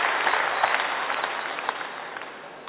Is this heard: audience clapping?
yes